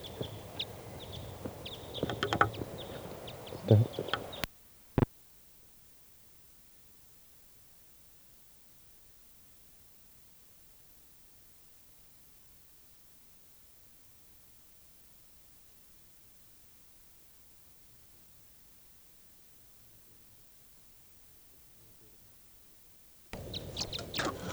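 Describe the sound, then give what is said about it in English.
Birds flying over toward a net call in short chirps over a loud hiss for the first few seconds, followed by a sharp click and a long near-silent stretch before the hiss returns at the end. “Birds flying over toward the net again.”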